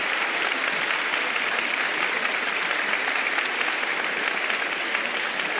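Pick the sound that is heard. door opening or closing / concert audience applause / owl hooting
concert audience applause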